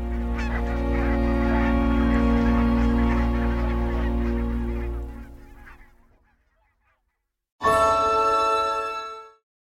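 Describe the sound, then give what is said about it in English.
A loud chorus of geese honks continuously for about five seconds at sunrise, around 5 a.m. outside a hotel car park, fades into near silence, then a single burst of honking erupts briefly before cutting off. No one speaks. “But once you get out, the sun's coming up and so many geese, so many swans, just magical.”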